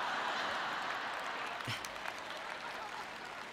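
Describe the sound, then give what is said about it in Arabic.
An audience claps steadily, a dense wash of many hands sustained at an even level for several seconds, with no voices standing out. “نصف تصفيق آخر، شكرا.”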